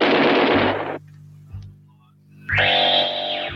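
A synthesized helicopter-blade effect in a 1980s song: a loud, rapidly chopping burst of noise over a low droning hum, a brief lull, then a bright, warbling electronic tone swells in.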